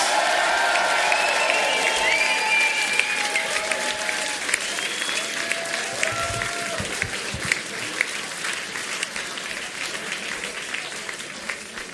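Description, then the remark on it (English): A concert crowd applauds loudly and steadily for the band's vocals and keyboards player, Jed Ryland, with whistles and scattered cheers rising above a dense wash of clapping that barely fades over twelve seconds. “A lot of noise, please, on vocals and keyboards, Mr.”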